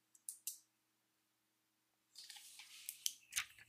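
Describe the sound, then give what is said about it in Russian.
A sheet of paper is ripped from a notebook in one long, crackling tear lasting over a second, preceded by a couple of sharp clicks. It is fairly quiet, with no voices. “Сейчас я тебе вырву лист какой-нибудь.”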